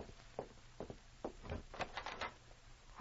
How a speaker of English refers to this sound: Suddenly, there was a knock on her door.